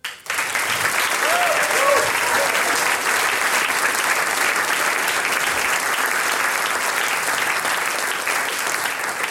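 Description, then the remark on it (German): Steady, dense applause from an audience for singers from Carinthia and Styria who performed with two accordions and a harp; a loud continuous wash of clapping with a few brief whoops or cheers near the start. “Eine gute Mischung, der Applaus gehört euch.”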